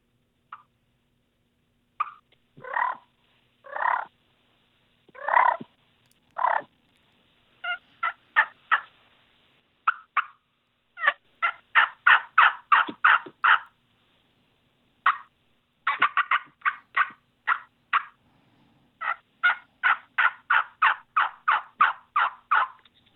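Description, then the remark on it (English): A hunter imitates hen turkey calls with a turkey call: a varied mix of clucks and yelps, some spaced singly, others in quick rhythmic runs of raspy notes, loud and clear with no talking. “So this would be a hen turkey, and just the variety of sounds that she would make.”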